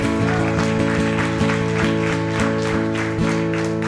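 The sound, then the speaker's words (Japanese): An audience applauds during a Christian worship service, the dense clapping carrying steady rhythmic accents, over sustained music with a held, organ-like tone throughout. “一緒に拍手を捧げましょう。”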